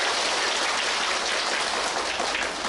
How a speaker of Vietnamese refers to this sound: Trong một cái điều kiện thời tiết này, đạo tràng chúng ta có người trẻ, người già, người lớn cùng tu tập. Xin cho một tràng pháo tay tán thán.